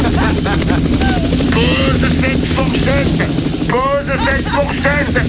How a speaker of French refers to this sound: Putain, il y a un hélico.